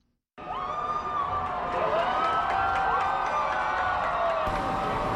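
A large crowd on Lower Broadway (the Canyon of Heroes), Manhattan, New York, cheers and shouts continuously at a ticker tape parade honoring the U.S. women's national soccer team for winning the 2015 FIFA Women's World Cup: a dense roar of voices with rising whoops and high calls, loud and sustained after a sudden start.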